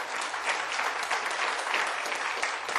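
Light applause from a small group, a steady patter of scattered hand claps that stays at an even, moderate level throughout, with no voices over it.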